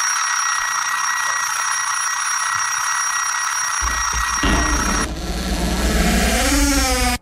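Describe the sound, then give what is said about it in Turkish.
A loud, harsh doorbell rings nonstop, a buzzy electric clang held for several seconds, with a deep rumble joining partway and warbling tones near the end. No one speaks. “Hadi bakalım, şimdi beyefendi evimizi yıkıp bize para vermek için kapımızı çalıyor efendim.”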